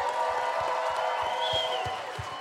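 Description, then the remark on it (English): A game show audience applauds the winner at the end of the game, steadily and loudly, a dense wash of clapping with some cheering mixed in, over a regular low thumping beat, easing slightly toward the end. “Give it up.”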